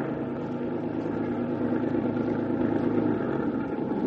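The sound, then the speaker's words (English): A truck engine drones continuously as the truck drives along, a steady rumbling with a low throbbing tone holding level, without any talking. “Truck stopped and I worked my way around the packing cases”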